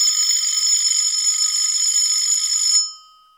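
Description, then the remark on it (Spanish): A telephone rings with a bright, metallic bell trill that holds steady and loud for nearly three seconds, then cuts off and fades away quickly. No voices are heard. It is a call placed from Mexico City by a grandson phoning his grandmother to greet her. “En este momento, llama por teléfono a su abuela para saludarla.”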